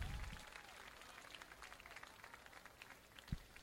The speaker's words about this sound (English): One more round of applause for Ben and Amelia.